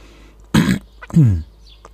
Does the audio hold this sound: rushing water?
no